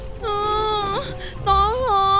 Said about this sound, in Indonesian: Lisa menangis dan berteriak minta tolong.